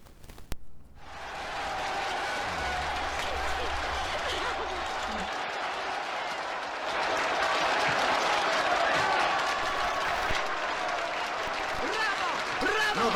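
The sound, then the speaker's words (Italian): Sustained applause from a large audience starts abruptly and swells into a dense, steady wash of clapping that continues without pause, with a brief low hum near the start. “Due minuti di applausi!”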